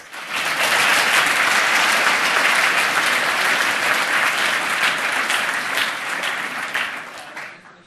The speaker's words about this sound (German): Und bitte einen herzlichen Applaus für Nils Magnus aus Deutschland.